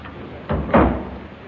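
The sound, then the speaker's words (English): A door swings shut with a short two-part clunk, a soft bump followed quickly by a firmer thud, moderately loud over a quiet background. “No, sounded more like a door closing.”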